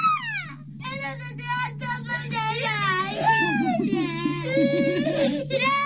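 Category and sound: human body sound, babies crying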